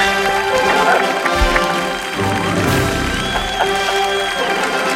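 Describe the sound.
An audience applauds and cheers in a steady, dense wash of clapping that holds at the same loudness for several seconds, with crowd voices mixed into the noise. The applause is for Soldatran, a small mattress transport company.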